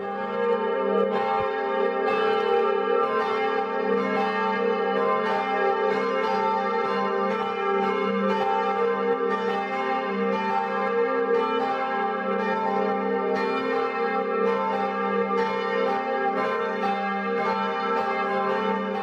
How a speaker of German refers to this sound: So kräftig klingen die 5 Glocken der katholischen Filialkirche St. Bonifatius in Winzhausen, einem Ortsteil der Gemeinde Hohenroth.